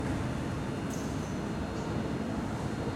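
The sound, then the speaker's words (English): A train approaches platform 3 of a station without stopping, a steady, loud low roar of wheels and engine filling the scene, with a brief high squeal cutting through partway. “The train now approaching platform 3 does not stop here.”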